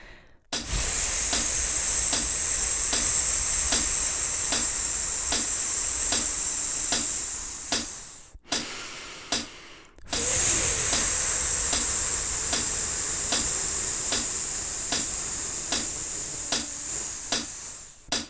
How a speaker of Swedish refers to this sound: Och övningen kommer vi att rivstarta med att göra 10 pulsslag på ett F alltså. F som är faster. Så vi kan börja här och testa.